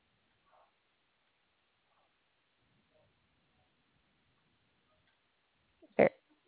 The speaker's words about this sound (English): Somebody farted.